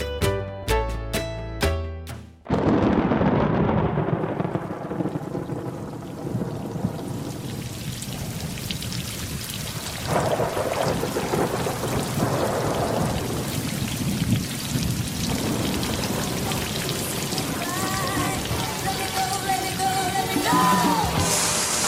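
Heavy rain pours down steadily and loudly, with deep rolling thunder rumbling underneath. A few brief tonal notes play at the very start before the storm takes over.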